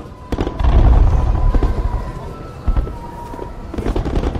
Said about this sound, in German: Nein, an Schlafen ist noch nicht zu denken. Denn noch gibt es das allabendliche Feuerwerk am Schloss.